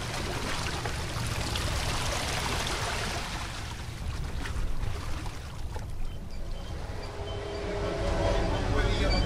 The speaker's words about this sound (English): I'm on the train now, and it's full. There's a mix of business people commuting to the free trade zone in Colón, a number of contractors and tourists as well.